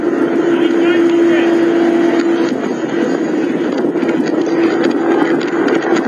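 helicopter arriving overhead

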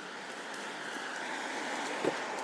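cold wind blowing outdoors

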